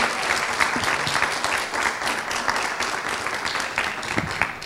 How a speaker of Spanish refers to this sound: Enrique Carrión, para quien pido realmente un aplauso, porque esa orquesta...